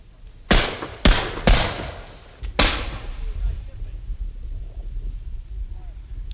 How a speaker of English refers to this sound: The sounds you're now hearing are those of the squad loading their muskets. Now the men bring muskets to shoulders, cock the hammers, and fire.